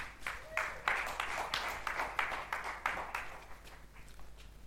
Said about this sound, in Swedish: Tack så jättemycket. Ska vi ge dem en applåd till?